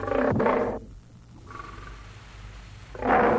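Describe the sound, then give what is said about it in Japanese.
A lion roars twice, loud: a deep, rasping roar at the start and another at the end, with low rumbling growls in between. “何かライオンが言いたげにしておる。”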